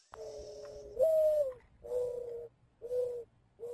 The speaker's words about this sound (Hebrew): ואחריו נשמע את הת'ראשר החום, שתנאי המחיה שלו כן השתנו.